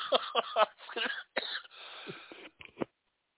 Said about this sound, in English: Well, sorry, I had to mute myself there. COVID, still, you know, still dealing with the last couple of days here of some coughing and stuff. But, so I had COVID this week.